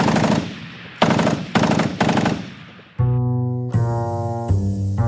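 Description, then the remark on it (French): A militiaman's submachine gun fires at Jean Zay in loud, sharp bursts, four rattling volleys in quick succession, followed by a sustained, low, droning musical tone with no voices. “Pour toute réponse, le milicien Charles Debel braque sa mitraillette vers lui et tire.”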